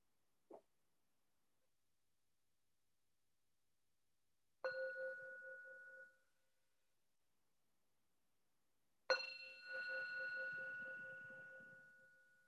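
meditation bell ringing

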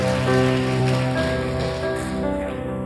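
audience clapping

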